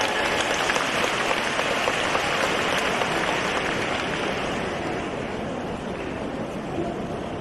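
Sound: audience applause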